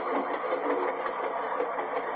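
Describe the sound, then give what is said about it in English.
A loaded train rolls into a station, giving off a steady, dense mechanical clatter and rumble that holds an even loudness throughout, with no voices. “Boy, he's loaded. He's coming into a station.”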